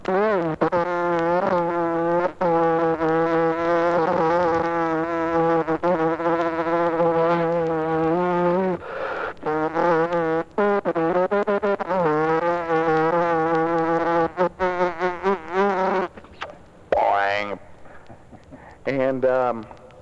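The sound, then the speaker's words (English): A voice imitates a bumblebee buzzing: a loud, continuous droning hum with slight wavering pitch, carrying on for about fifteen seconds before breaking into shorter choppy bursts. “And, here's the sound of a bumblebee lining on Limburger cheese.”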